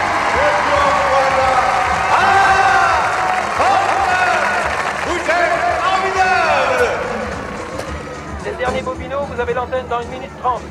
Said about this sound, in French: Attention ! Oh non, doucement, c'est ça que vous appelez applaudir. Je vous entends 10 fois plus fort. Allez-y !